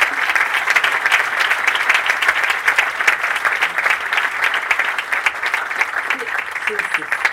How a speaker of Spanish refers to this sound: Y ahora pediría un aplauso para él.